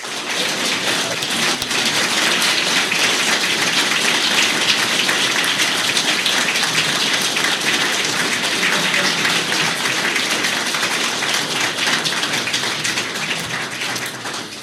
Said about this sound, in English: Please give a very, very warm round of applause